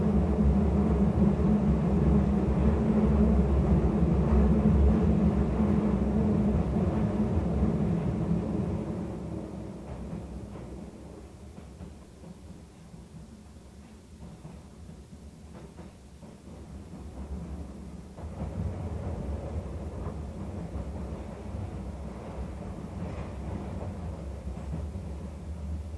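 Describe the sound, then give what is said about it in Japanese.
Deep, continuous rumble and roar of a subway train bound for Dainichi, heard from inside the car as it heads to Nakazakicho station, loud at first, easing to a softer hum midway, then swelling again. No one speaks. “地下鉄ニュートラムの車内には優先座席を設けています。”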